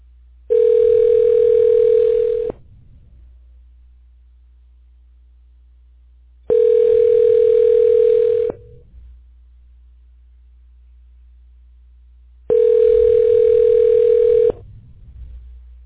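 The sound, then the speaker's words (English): A telephone ringback tone purrs three times as Google Voice tries to connect a call, each steady two-second ring followed by a few seconds of near silence, fairly loud and clear with no voices. “state your name after the tone, and Google Voice will try to connect you.”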